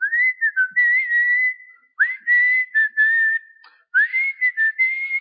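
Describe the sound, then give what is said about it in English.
A man whistles a hymn tune alone, clear: three sustained melodic phrases separated by short pauses, with smooth sliding notes and no talking. “Pastor John knows we were going into prison, and I was just whistling and humming and singing.”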